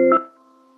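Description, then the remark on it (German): A telephone rings downstairs: one brief, loud electronic tone of stacked pitches that quickly drops to a softer, steady hum lingering to the end, with no voices. “Da ich sehe, unten ruft einer auf einem der Telefone unten.”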